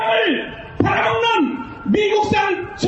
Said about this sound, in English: Stop imports of U.S. beef, shouts the crowd of nearly 10,000 people in a street rally near Seoul.